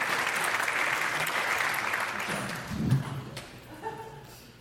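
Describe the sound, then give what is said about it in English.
A crowd claps and applauds for a performer being introduced, in a dense, steady wash that gradually fades, with a few low thumps and a faint voice near the end. “Clap your hands for my hero”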